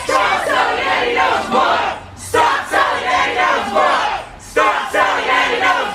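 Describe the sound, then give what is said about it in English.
A crowd of protesters outside Powell's bookstore in Portland, Oregon, shouts the chant "Stop selling Andy Ngo's book!" in unison, loud repeated bursts of massed voices with brief pauses between each rhythmic phrase. “Well, it seems like this crowd of people outside of Powell's bookstore do not want Powell's bookstore to sell Andy Ngo's book.”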